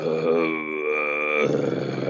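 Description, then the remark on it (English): A person imitates with their voice a low, rumbling growl heard while working in a thick lodgepole pine stand by a creek, similar to bear sounds: a sustained throaty drone lasting about two seconds, fairly loud, turning rougher and more gravelly near the end. “And I mean, it was a low rumble growl.”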